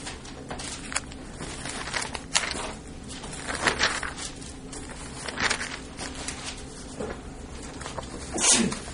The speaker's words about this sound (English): Bless you. Thank you. I'll take all of that. You'll sneeze again for that, won't you?